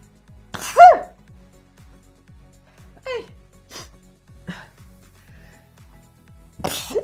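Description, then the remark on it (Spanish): A single loud sneeze bursts out near the start during a live broadcast, followed by a few short, quieter vocal sounds over a faint, steady ticking in the background. “Oigan, qué feo es estornudar en una transmisión en vivo porque hacemos las peores caras cuando estamos estornudando y esto queda grabado para que ustedes lo vean.”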